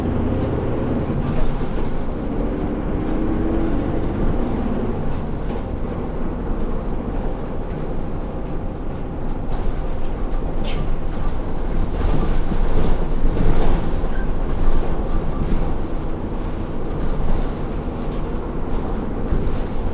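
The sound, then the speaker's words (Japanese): Steady low engine rumble and road noise fill the cabin of a low-floor city bus in Kyoto with its entrance at the middle door, approaching Kyoto Station, the final stop. The sound is loud and constant, with faint rattles and no voices. “乗降口が中扉の低床式バスは、扉の開閉時に車体が揺れますので、ご注意願います。”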